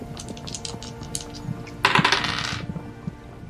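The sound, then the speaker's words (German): Dice rattle in a cup with a few light clicks, then tumble across a hard table in a bright, clattering burst lasting under a second, with no talking, rolled for a perception check. “Würfel bitte auf Wahrnehmung um 20 erleichtern.”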